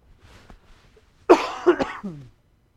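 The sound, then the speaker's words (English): A harsh cough from a preacher with a lingering cough bursts out during a sermon in a quick cluster of two or three hacks, rough and throaty, following a few seconds of quiet low murmuring. “I've been dealing with this stupid cough. I can't get rid of it, but it only bothers me when I talk”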